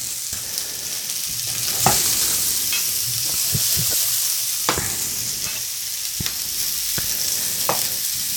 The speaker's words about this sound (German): Ja, das ist so, wie ich mir das gedacht habe. Das mit den Anbraten der Mettenden, das habe ich noch nie so gemacht, aber das gefällt mir sehr gut.